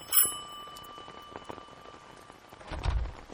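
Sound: doorbell ringing three times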